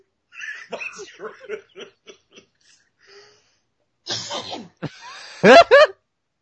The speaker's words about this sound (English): This is making me so laugh so much. I'm coughing.